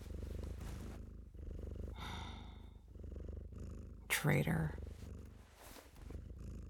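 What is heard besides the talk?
cat purring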